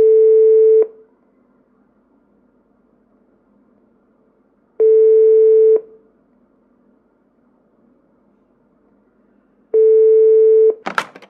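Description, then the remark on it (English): A telephone ringing tone sounds on the line as a caller is put through to a sales department, in three steady one-second buzzes spaced several seconds apart with quiet in between, followed by a sharp click as the call is picked up. “The number's ringing for you now.”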